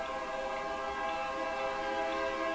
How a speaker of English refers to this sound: Thank you, train. See, here comes the train. Train is coming. Who could have seen that coming? I can hear it coming.